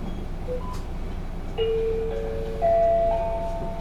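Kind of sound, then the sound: vehicle, train departing and running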